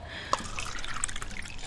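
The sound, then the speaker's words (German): Water pours steadily into a glass, a soft continuous splashing flecked with bright bubbly plinks, fairly quiet and with no one talking. “Möchtest du Wasser? Ja. Ja? Okay, warte.”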